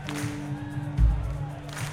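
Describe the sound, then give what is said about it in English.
An audience claps along to the tambourine and stomps along to the kick drum during an Irish drinking song, in a loose rhythm, with scattered hand claps and a heavy thud of feet, over a low steady hum. “And then on the tambourine there, we love a clap.”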